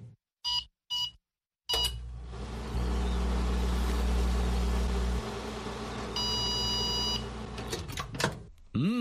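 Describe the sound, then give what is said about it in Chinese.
A few short beeps sound before a microwave oven making popcorn starts with a steady low electrical hum that runs for several seconds. A high, steady tone rises over it near the end, then the hum cuts off with a click. “你又唔系未用过微波炉 ？”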